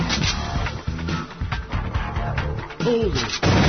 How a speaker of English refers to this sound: Now, as soon as it started, I had already shot one, so the next one that comes up, I'm going to shoot twice. So I'll do that for a little bit, then I'll explain things as they go. So there's twice.